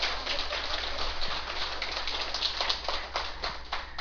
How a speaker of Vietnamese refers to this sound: Vậy thì đầu năm mời quý vị vỗ cho mình một tràng pháo tay thật lớn hả?